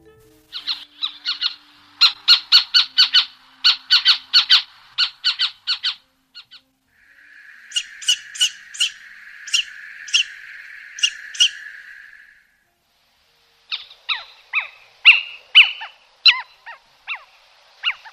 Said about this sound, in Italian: La predatrice notturna di cui parliamo ed avete ascoltato, avrete indovinato, è la civetta. È uno dei rapaci notturni, insieme all'allocco, più diffuso in Italia ed è certamente quello più sinantropico.